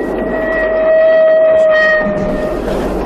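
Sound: train running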